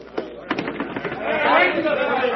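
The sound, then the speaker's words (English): A large crowd shouts and cheers in the streets outside, a dense roar of many voices that swells louder and steadier toward the end, with a few sharp bursts early on. “They have been shouting that ever since they saw me come through the streets.”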